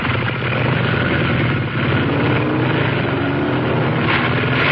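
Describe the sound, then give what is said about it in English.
Loud, steady engine roar of two motorcycles revving as they ride down the length of a garage, a dense continuous rumble with a brief dip partway through, with no voices. “The headlights separated as two motorcycles roared down the length of the garage.”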